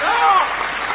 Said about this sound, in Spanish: Aquí estamos en Berazategui, en la Feria del Libro. Vamos a saludar con una ovación, que realmente el tipo se caiga de espaldas, a Patricio Barton.